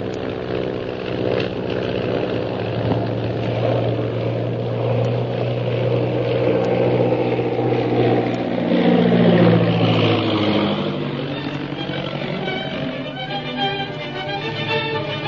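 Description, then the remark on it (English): A propeller airplane engine drones loudly and steadily, its pitch bending and rising midway as it climbs, then settling into a strained hum. No voices are heard. “I'm going to climb above the purple triangle plane without the pilot seeing us.”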